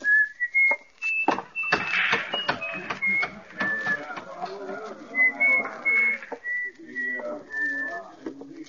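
man whistling

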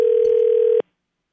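phone call ringing tone

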